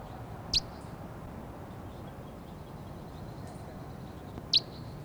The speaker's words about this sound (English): This is bird 306. Yeah. Recording this bird 306 again.